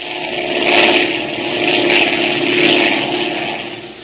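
A propeller airplane engine drones steadily in flight, a continuous buzzing roar that swells and eases in slow waves, with no voices over it.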